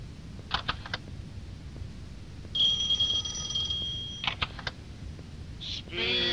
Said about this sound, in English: That was a very loud beep.